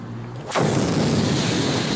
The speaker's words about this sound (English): 12 years earlier, footage from Belfast shows a bomb exploding on a city street.